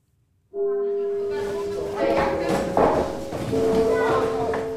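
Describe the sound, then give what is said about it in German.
A school gong at the Grundschule Kinderhaus West primary school in a suburb of Münster, Germany, signals the next lesson, ringing out with sustained, humming tones that shift to a new pitch partway through, over a steady bustle of children's voices and clatter. “Der Gong zur nächsten Unterrichtsstunde an der Grundschule Kinderhaus West, einem Vorort von Münster.”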